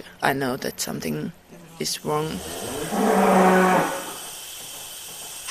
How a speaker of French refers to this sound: À quelques mètres de là, une trentaine de vaches laitières se font traire les unes après les autres dans une salle mécanisée.